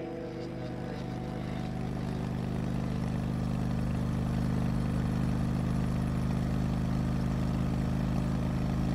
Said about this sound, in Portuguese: Royce subiu na moto, ainda mirando a arma nos dois. Ligou e seguiu. Acelerou o mais rápido que podia